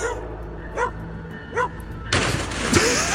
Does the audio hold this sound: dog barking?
yes